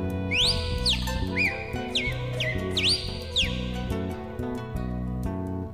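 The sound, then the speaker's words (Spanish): Clear, slurred bird whistles sweep up and down in a quick series of four or five phrases, bright, over a steady musical backing, like a cardinal singing. “Canta el cardenal.”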